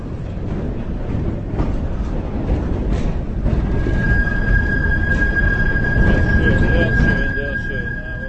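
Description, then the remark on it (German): A tram in Prague rumbles along, and partway through, as it turns a curve, a thin, high metallic screech rises from the wheels and holds steadily over the heavy rolling noise until the end. “Ab da an gab es keinen Halt mehr und die Prager mussten sich auch ziemlich schnell an das neue Geräusch gewöhnen, wenn eine Straßenbahn in die Kurve bog.”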